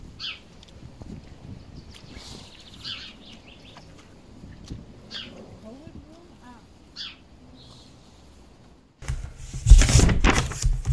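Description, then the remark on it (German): Scattered bird chirps and short calls ring out over a quiet outdoor background in a village, then a loud burst of rustling, leaves tossed by wind, takes over near the end. “Man hörte vor allem Vögel und Blätter im Wind.”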